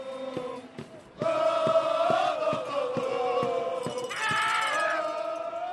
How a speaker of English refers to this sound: They constantly blow plastic horns, wave Australian flags, and bang drums. Their organized chanting reaches a crescendo near the end of the third quarter as Bogut and the Bucks try to make a comeback.